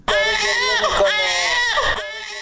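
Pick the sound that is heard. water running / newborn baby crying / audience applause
newborn baby crying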